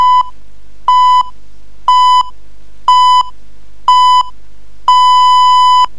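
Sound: radio time signal beeps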